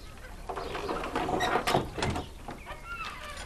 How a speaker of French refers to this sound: Quelqu'un ferme cette porte.